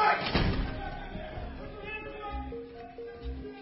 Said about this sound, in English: The door's going to lock from the outside. Miss Barris is not going anywhere.